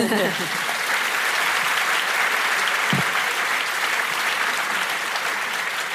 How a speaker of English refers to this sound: And now you can applaud.